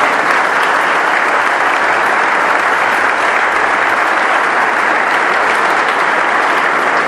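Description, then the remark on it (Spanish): Sustained applause from a large audience for workers' cooperatives, a dense, steady wash of many hands clapping at an even loudness for several seconds, with no voices standing out. “Quiero también pedir un aplauso para las cooperativas.”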